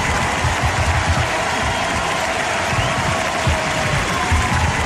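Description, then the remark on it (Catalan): A large crowd gives a sustained ovation for Carles Puigdemont, who spoke from Brussels, with dense applause and cheering filling the space steadily for several seconds with no break, loud. “I a l'altra cara de la moneda, la gran ovació que va rebre Carles Puigdemont, que va parlar des de Brussel·les.”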